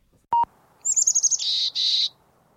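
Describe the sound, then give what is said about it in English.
A chickadee sings clearly: a quick run of high, chattering notes, then two longer buzzy notes. A brief tone sounds just before, with no talking. “It's a chickadee.”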